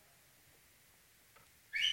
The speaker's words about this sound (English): Oh yeah. Here you go. Those are the whistles.